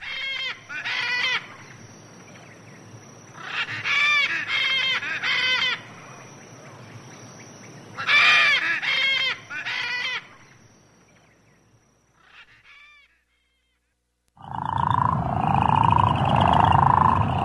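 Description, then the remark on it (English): Calls of the Kentucky crawfish frog, a threatened species: several bursts of loud, harsh, honking snores with a buzzy, harmonic tone, separated by short pauses, then a fainter call and a dense, louder stretch of noise to finish. “Behind me there, the Kentucky crawfish frog, threatened, many species endangered, many critically endangered these days.”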